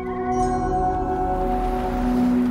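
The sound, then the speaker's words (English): A musical chime from a 2012 video game, the only means players have to communicate with each other, rings out in sustained, layered tones that hold steadily for the whole stretch, with a deeper note swelling in near the end over a soft low rumble. “As a player, you control a robed figure traveling across a huge desert towards a faraway mountain, sometimes encountering and helping other players, with whom your only means of communication is a musical chime.”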